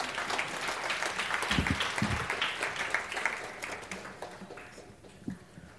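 An audience applauds in a dense, steady wash of clapping that holds strong for several seconds and then slowly thins and fades toward the end.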